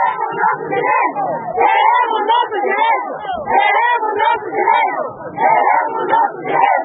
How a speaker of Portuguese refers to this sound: As senhoras lançavam gritos e palavras de ordem à porta da administração municipal.